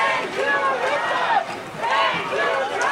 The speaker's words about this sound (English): The crowd erupted with excitement, chanting their joy and gratitude to President Trump.